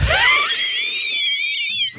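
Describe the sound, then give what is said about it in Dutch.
An experienced pediatric lung specialist imitates a wheezing breath into a microphone: a thin, high-pitched whistling squeal drawn out for about two seconds, fairly loud, with no talking. “Jij zei net, je hoort een piepende ademhaling.”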